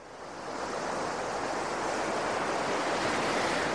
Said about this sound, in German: Ach, herrlich, so ein Tag an der Nordsee. Hier am Strand kann man sich mal wieder richtig den Wind um die Nase wehen lassen.